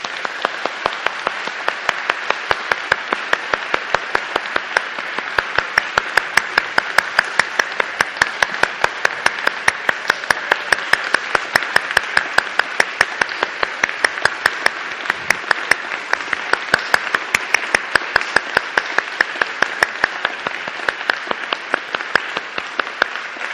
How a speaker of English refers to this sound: So I think we should give him a round of applause.